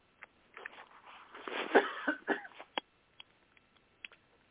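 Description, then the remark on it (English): A man coughs and clears his throat in a rough, rasping cluster, followed by a few short, sharp coughs trailing off. Moderately loud, with no talking. “while I take another sip of coffee and quit coughing.”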